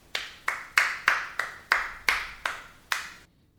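A single person claps eight times in a steady, moderately quick rhythm, each clap sharp and close with a brief ringing decay, ending in quiet. No one speaks.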